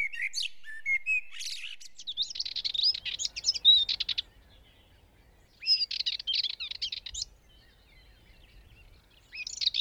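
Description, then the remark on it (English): A Dartford warbler sings in quick, scratchy, chattering phrases, three bursts separated by short pauses, over a faint low rumble of wind or traffic. “So we'll have blackbird, Dartford Warbler, and stone chat coming up now.”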